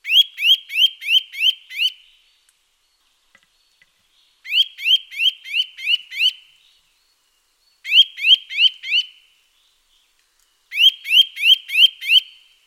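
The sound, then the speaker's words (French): A Eurasian nuthatch calls in four loud bursts, each a quick run of five or six clear, rising whistled notes, separated by short silent pauses. “Oui, vous l'avez reconnu, c'est la Citelle torchepeau.”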